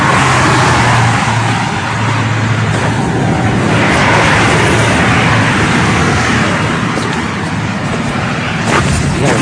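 Loud, steady roar of road traffic with a deep engine rumble from a 2 km line of huge construction trucks on the approach to Abu Dhabi, continuous for the whole stretch with no one speaking.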